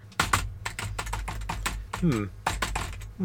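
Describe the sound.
Rapid, uneven clatter of keys on a computer keyboard, fairly loud, with a brief voiced sound breaking in near the middle and again at the end.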